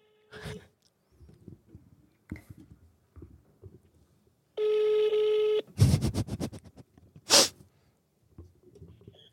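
A phone call being placed during a live broadcast: scattered soft taps and clicks, then a single steady electronic ring tone lasting about a second, followed by a few sharp, loud bursts of noise.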